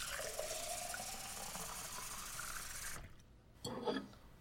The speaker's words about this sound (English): Here, let me get you a glass of water for that throat.